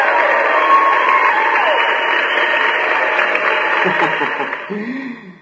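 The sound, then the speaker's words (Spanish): A steady burst of applause on a radio program, congratulating a listener who won a book, holds loud for about four seconds, then tapers off as a voice begins speaking over its fading end. “Aplausos nuevamente.”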